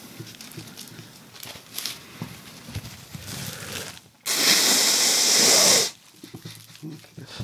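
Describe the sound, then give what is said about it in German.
Someone blows their nose once, a loud, breathy, sustained blast lasting about a second and a half, rising abruptly out of faint rustling and cutting off just as sharply. “Was jeder hören möchte, wenn er so einen Podcast hört, wie sich jemand die Nase putzt.”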